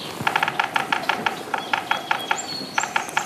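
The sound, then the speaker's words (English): A large woodpecker hammers on a tree in a quick, uneven series of sharp, dry knocks, clear against a quiet background in a spring maple and oak forest beside a cold snowmelt river. “A big woodpecker sounds, and then a flight of geese.”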